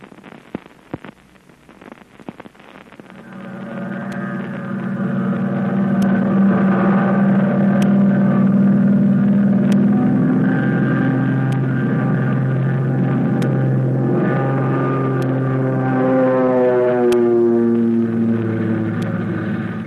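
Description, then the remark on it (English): The engine of an American pursuit plane revs up over the first few seconds, then roars in a loud, steady drone as the plane streaks through the sky toward Yokohama, Japan, its pitch wavering and shifting toward the end. No voices are heard. “the American plane with Flip Corkin at the controls is streaking through the sky toward Yokohama”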